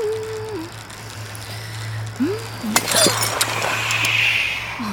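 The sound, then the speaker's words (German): A quick cluster of sharp, glassy clinks and crunches of broken glass shards left lying on the ground, like shards crushed underfoot or under a tyre, over a steady low hum, with a voice faintly humming a wandering tune. “Welches Arschloch hat denn ausgerechnet hier Scherben liegen lassen?”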